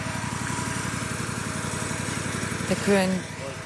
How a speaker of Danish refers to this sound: Der kører en plæneklipper rundt. På parkeringspladsen.